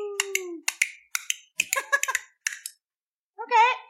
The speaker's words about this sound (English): That's the dice sound. We've always done that. Always.